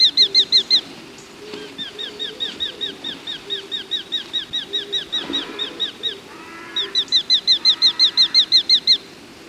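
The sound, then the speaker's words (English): A hobby, a small falcon smaller than a kestrel, gives rapid, high-pitched series of sharp kew notes, loud, pausing briefly and then breaking into another fast run, with faint background noise and no voices. “The hobby is a small falcon, smaller than a kestrel.”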